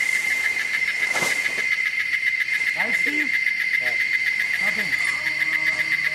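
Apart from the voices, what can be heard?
loud cicadas buzzing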